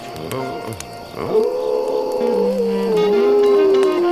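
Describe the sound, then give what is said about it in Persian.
A wolf pup lets out a long, wavering howl that swoops up then holds a thin, high tone for a few seconds, fairly loud over faint background noise. “بعضی وقتا زوزه کشیدن یه بچه گورک فرکانسش از صدای بعضی آدم ها بالاتره.”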